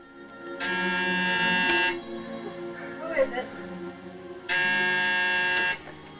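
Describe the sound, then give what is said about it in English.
A door buzzer at a door with a screen, up a flight of stairs, is pressed twice, each a loud, steady electric buzz lasting over a second, with a pause of a few seconds and faint background noise between the presses. “Don reaches a door with a screen and presses the buzzer.”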